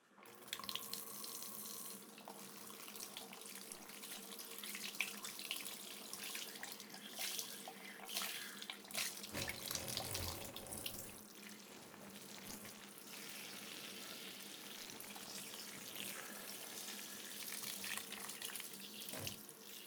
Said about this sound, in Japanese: シャワーで流しますね。